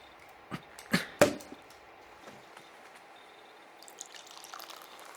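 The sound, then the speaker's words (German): A bottle of Sekt sparkling wine is opened with a few sharp pops, then a fizzy, hissing pour into glasses follows quietly with no voices. “Magst du die Flasche aufmachen?”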